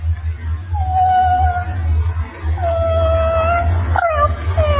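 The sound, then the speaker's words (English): An animal imitator imitates a dog, giving several drawn-out, wavering howls and whimpers in close succession, clear and up front over a steady low background hum. “And my barking dog really bites.”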